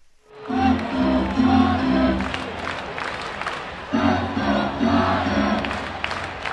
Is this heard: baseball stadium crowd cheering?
yes